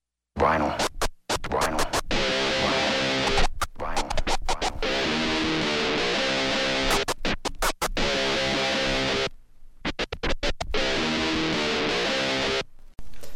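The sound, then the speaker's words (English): Vinyl record scratching, loud and continuous, with rapid back-and-forth strokes chopped by abrupt cuts and brief silences, creating a stuttering, rhythmic pattern of rough, bright scrapes over a musical tone. “There's no mistaking that sound. Vinyl.”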